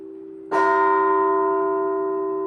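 A church bell is struck once, loud, over the hum of an earlier ring, its rich metallic tone sustaining and slowly fading. No one speaks.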